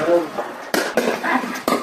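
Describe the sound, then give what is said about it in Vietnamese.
Sharp, crisp pops of a pickleball struck by paddles, three sudden hits in quick irregular succession over a busy background murmur of voices and clatter, played in a small lane in western Melbourne, Australia, under summer sunshine. “Đó là tiếng đập giòn tan của trái banh pickleball, môn thể thao đang gây bão khắp nước Úc.”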